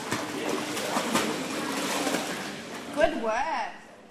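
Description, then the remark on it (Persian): Steady splashing and sloshing of water in an echoey pool during a swimming lesson for children aged 2 to 5 at Blue Water swim school in south-west Sydney at 11:30 am, with indistinct voices throughout and a child's high-pitched call rising briefly near the end. “ساعت 11:30 صبح در مکتب آب‌بازی بلو واتر در جنوب غرب سیدنی،”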